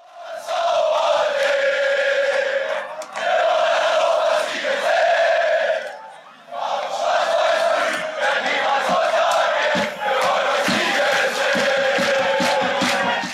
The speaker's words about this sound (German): Ein ungeheurer Jubel erfüllt das Stadion. Hannover 96 ist deutscher Meister.